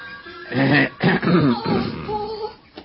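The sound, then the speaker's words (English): A man coughs several times in close succession, harsh and throaty bursts, followed by a rougher, trailing throat-clearing sound with no one talking. “My cough must have been pretty frightening”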